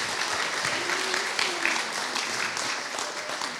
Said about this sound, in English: And now we're going to ask, yes, give them a clap. You want to.